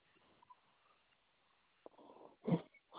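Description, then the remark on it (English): A female dog squeaks a squeaky toy, with a few soft, scattered squeaks and then one loud, raspy squeak near the end, sounding muffled over a quiet background. “My girl's got a squeaky toy.”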